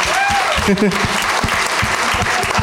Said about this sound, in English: Let's applaud this guy, everybody.